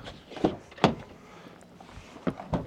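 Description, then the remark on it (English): A pickup truck's door clunks and rattles as someone climbs into the driver's seat of a four-door Maverick truck, with four sharp thumps and clicks spaced across a quiet interior and no talking. “I'm gonna get in the driver's seat.”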